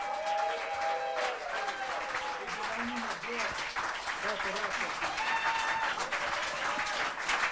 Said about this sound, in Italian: Eccoli che stanno arrivando, un sono applauso. Sono in arrivo. La canzone... preparate più forte che potete, un applauso